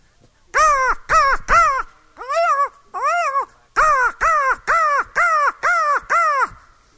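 A crow caws loudly, about eleven harsh, nasal calls in quick bursts: three, then two spaced singly, then a rapid run of six. No one speaks.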